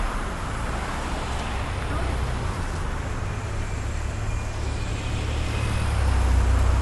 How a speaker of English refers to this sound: We're getting right across the street. And traffic's picking up really bad.